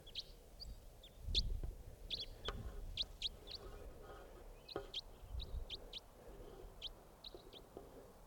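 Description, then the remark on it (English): A wild bird calls in the distance, a faint series of short, high chirps repeating roughly every half second over a low, rumbling background. “It's a type wild bird in the distance.”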